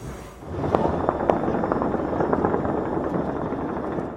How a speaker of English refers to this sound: Celebratory gunshots soared over Beirut's night sky as residents cheered the ceasefire.